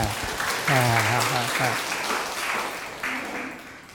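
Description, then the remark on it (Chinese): An audience at a humanities lecture applauds steadily, a dense wash of clapping that fills the whole stretch, while a man's voice speaks loudly over it in the middle and briefly again near the end. “很棒，在鼓掌。”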